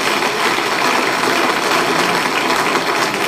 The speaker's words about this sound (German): Danke vielmals für diesen Applaus.